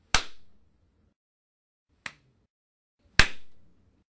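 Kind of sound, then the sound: human body sound, two hand claps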